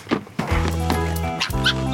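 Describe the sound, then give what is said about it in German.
A young female fox (vixen) gives squeaky, whining barks: two drawn-out, high-pitched yelping calls in quick succession, fairly loud, with no talking. “Aber ich spiele euch jetzt erstmal, damit wir alle dabei sind, erstmal die Füchsin aus dem Hörspiel vor.”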